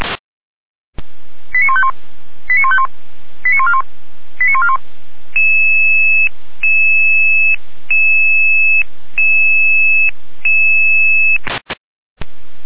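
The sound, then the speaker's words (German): Alarm call tones over an emergency dispatch radio in Bad Berka, for a door-opening call to a helpless person: four quick clusters of electronic tone beeps, then a steady two-tone alert pulsing about eight times, thin and band-limited like a radio channel, with no talking. “Volker, Alarmruf.”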